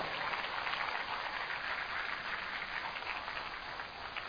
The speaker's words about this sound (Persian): تشویق کنین خودتونو.